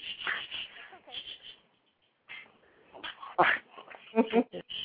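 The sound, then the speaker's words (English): A dog whimpers and lets out short, high-pitched barks in close, irregular bursts as someone comes in from next door, falling silent briefly before a louder run of yips and whines. “My little sister's just coming in from next door, so sorry if you bark.”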